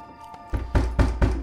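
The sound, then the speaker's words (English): Heavy knocking on a door downstairs, where Hampton waits with two fellow Panthers, about five loud, booming thuds in a steady rhythm, forceful, starting after a brief stretch of quiet background hum. “Soon there's a loud knock downstairs, and Hampton exchanges looks with the men who stand by his side.”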